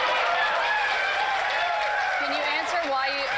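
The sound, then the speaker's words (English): A crowd cheers and applauds in a steady, dense roar of clapping and voices that holds at full volume for a few seconds, with occasional shouts rising above it. “And of course, the sycophant crowd cheers.”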